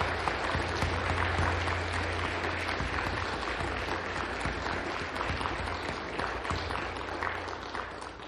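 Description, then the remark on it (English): A large church audience claps steadily for current and former military members standing to be recognized, in sustained, dense applause that stays loud for the full stretch, with many hands blending into a continuous wash and no speech over it. “Let's give these women and men a round of applause.”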